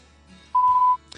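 A single steady electronic beep at about one kilohertz, lasting close to half a second, sounds from an answering machine before a message is left, clear, followed by a brief faint rustle.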